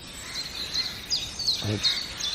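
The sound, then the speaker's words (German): A jay gives a single short, harsh crow-like caw, mimicking a crow, amid repeated thin, high-pitched chirps from other birds over a soft background hiss. “Das war eine Krähenruf-Imitation vom Eichel her.”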